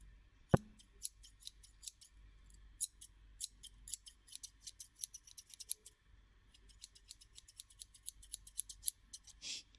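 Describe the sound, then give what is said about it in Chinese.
Scissors snip hair during a haircut in quick, uneven bursts of crisp metallic clicks, dozens of them over several seconds, with no voices and a quiet background. “你老实一点，信不信一剪刀下去你耳朵都没了”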